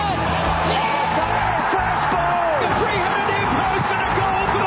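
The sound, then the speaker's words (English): A large racecourse crowd roars in a dense, steady wall of noise as the field leaves the stalls at the start of a race, with scattered whoops and yells rising above the din throughout. “Field sent on their way to the roar of the crowd.”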